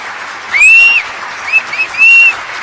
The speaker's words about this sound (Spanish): Y encima el aplausillo final que le faltaba.